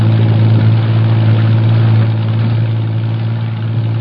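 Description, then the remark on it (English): A patrol boat engine, one of several patrol boats lined up for an operation, runs as the boat shoves off from the waterfront, with a steady, deep drone and a low rumbling hum, holding an even pitch throughout and easing slightly quieter toward the end, with no voices. “Jeffries, Morris, and I race to the waterfront and pile aboard one of the several patrol boats lined up for the operation. We shove off.”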